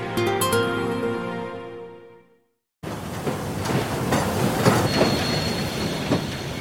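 After a short tonal passage fades into a moment of silence, a train rolls along the rails with a steady rumble, scattered rattles and clacks, and faint squeals, sustained to the end.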